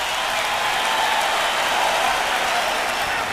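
A live concert crowd cheers and applauds in a dense, steady roar of hissing claps and shouts that holds at an even loudness for the whole three seconds, with no speech.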